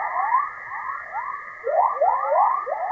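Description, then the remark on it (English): Magnetospheric chorus waves, a type of whistler wave typically found on the dawn side of the Earth, rendered as sound: a steady high hiss band with repeated rising, chirping whistles sweeping upward, overlapping like a dawn bird chorus, fairly loud and continuous with no voices. “There are many types, but my favorite are the chorus waves.”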